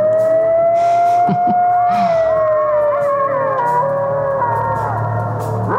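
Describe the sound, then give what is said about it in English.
Coyotes howling together: several long, wavering, siren-like tones overlap and slide in pitch, loud and unbroken throughout, with a few short higher yips mixed in and no talking. “Those are my angels, the coyotes.”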